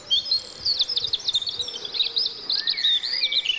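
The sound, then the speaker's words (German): A chorus of songbirds sings continuously in spring in Germany, with overlapping high chirps, trills and warbles from several birds, with no voices present. “Jetzt im Frühling sind sie besonders fleißig am Singen. Das große Vogelorchester ist in voller Besetzung.”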